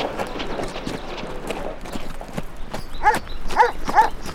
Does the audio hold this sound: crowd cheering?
no